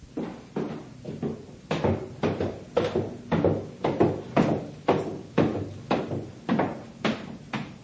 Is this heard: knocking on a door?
yes